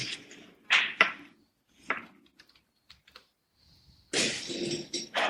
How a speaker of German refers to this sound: Das ist nur die Baustelle.